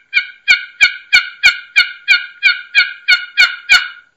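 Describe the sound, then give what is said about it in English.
A rapid series of about eleven evenly spaced, clear turkey assembly yelps made on a box call with short, choppy strokes, loud, in a steady choppy rhythm with little rasp, with no talking. “Yep, and because in those assembly yelps, there's not a lot of rasp to it. Yeah, it's just this choppy.”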